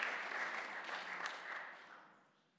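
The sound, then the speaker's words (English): A church audience applauds together in appreciation of the elders, a dense patter of many hands clapping at once that holds steady, then gradually tapers off and fades near the end. “On behalf of the church, I'd like to thank the elders for putting on the rugby today, and I'd like the church to trade an appreciation by clapping their hands.”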